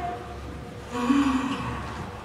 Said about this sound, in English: We are in danger, the church across North America, maybe around the world, we are in danger of a yawnful. Everybody yawn together. I did this last week, and then you continued, you know.